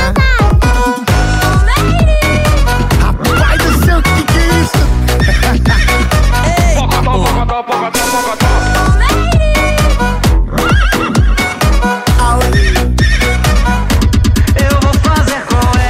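A horse neighs in several shrill, wavering whinnies, mixed loudly into a dense, continuous music track with a steady beat that plays throughout.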